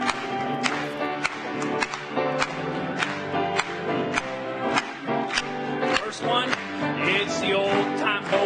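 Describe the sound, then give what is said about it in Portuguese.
An audience claps hands in a steady, even rhythm, sharp beats landing about twice a second over continuous singing and music. “Mais uma vez, batendo palmas.”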